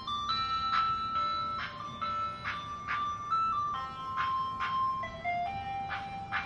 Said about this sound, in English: What's that? The ice cream truck. It's following me.